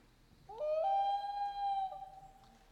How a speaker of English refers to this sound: Maybe some of us have also heard the dusk chorus of loons.